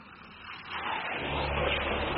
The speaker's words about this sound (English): Here comes another car.